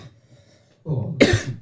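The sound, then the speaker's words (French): A harsh, raspy smoker's cough bursts out after a near-silent moment, a rough throaty heave followed by one loud hacking cough, with no talking. “Ah, c'est le problème d'être fumeur, de tousser.”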